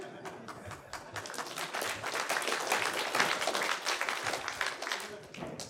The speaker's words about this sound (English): Thank you. Applause are welcome.